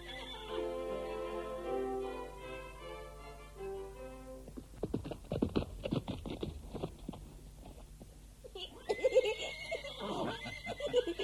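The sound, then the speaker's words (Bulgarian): A horse whinnies with a long, wavering cry, then hooves clop in a steady rhythm before another loud neigh breaks in near the end. “Метна го на коня.”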